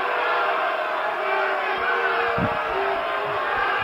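Fans in the stands boo in a steady, loud crowd roar that holds for the whole few seconds, with no clear individual voices rising out of it.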